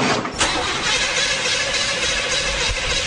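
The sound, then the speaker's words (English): A car engine cranks with a steady, loud grinding whir, turning over continuously for a few seconds without catching, and no voices. “to test whether a car could even run on hydrogen in the first place”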